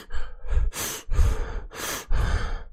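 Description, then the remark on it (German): Heavy, rapid panting breaths, about five or six loud huffing inhales and exhales in quick succession, rough and breathy like someone badly out of breath, with no talking, from a person sitting and cutting cucumbers in a kitchen. “wenn ich nur da sitze und Gurken schneide und mich anhöre wie eine Dampflok.”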